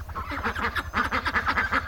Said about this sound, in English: Can you get that duck out of here?